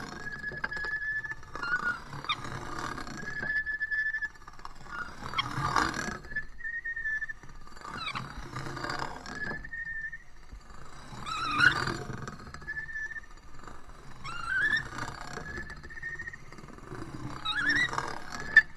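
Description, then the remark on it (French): Repeated squealing creaks, about six of them at a fairly steady pace, each a sustained high-pitched whine with rough grinding texture underneath, moderately loud with no voices. “Le grincement. Son que l'on fréquente un peu tous les jours, car omniprésent.”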